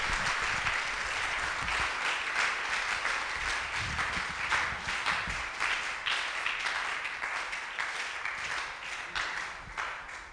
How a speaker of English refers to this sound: Today you are not clapping like men and women of faith.